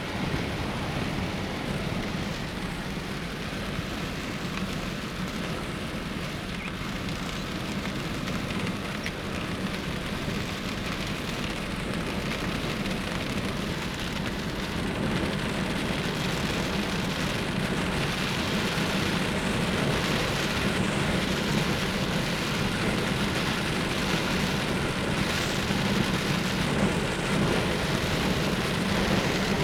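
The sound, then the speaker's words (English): Heavy rain and gusting wind roar steadily for the whole stretch, heard from a car driving on a road through a storm with lightning at 8:30 in the evening: a loud, dense wash of noise with a deep rumbling undertone and no voices. “Sound of the wind and the sound of the rain.”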